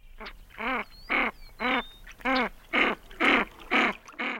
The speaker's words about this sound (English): That's the canvasback.